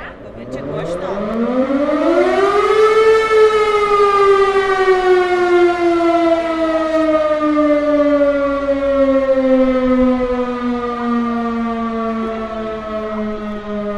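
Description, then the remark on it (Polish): A loud fire station siren, switched on by a firefighter, winds up in pitch over a few seconds, then holds a long, steady wail that slowly sinks, filling the whole stretch. “To później taki pan włącza taką syrenę. Wiecie, jak wyje syrena?”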